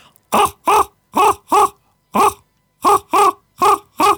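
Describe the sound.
A person imitates a common raven (grand corbeau) with nine loud, hoarse croaks in short bursts: four evenly spaced, a single one after a pause, then four more. Each croak is harsh and throaty.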